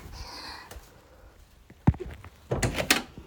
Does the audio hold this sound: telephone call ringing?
no